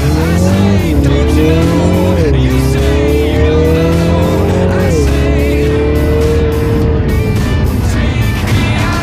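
The 306-horsepower engine of a Mini Cooper Clubman, started with a switch during a lap on a circuit, growls loudly, its pitch climbing and stepping up in stages as though shifting through gears, steady and unbroken for the whole stretch.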